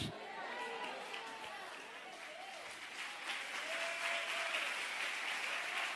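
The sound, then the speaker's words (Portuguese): An audience applauds steadily for the full stretch, a dense wash of clapping that swells slightly toward the end, with scattered voices calling out above it. “Não, mistura com aleluia esse aplauso aí.”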